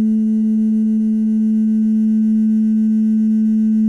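A wet finger circles a glass rim, played like a glass harmonica, drawing out one steady, ringing tone that holds at a constant low-mid pitch for the whole stretch, loud and pure with faint overtones above it.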